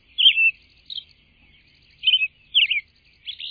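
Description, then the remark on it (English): Soft, high-pitched robin song as evening comes on, made of short whispery notes and twittering phrases, delivered in brief separated bursts with pauses between, quiet overall and with no voices. “Then, as evening comes on, the same robin interweaves these phrases with exquisite whisper-like notes from its personal treasury of 75 to 100 different whispered notes.”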